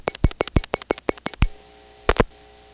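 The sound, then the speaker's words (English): A quick, even train of about ten sharp clicks as a rotary telephone dial returns on the last digit of a phone number, then a faint steady line hum, broken by a brief pair of clicks as the line's talk battery is momentarily interrupted. “The talk battery on my line was just momentarily interrupted.”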